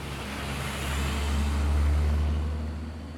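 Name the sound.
school bus driving past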